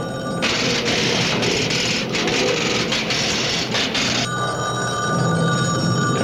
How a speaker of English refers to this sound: Your phone's ringing.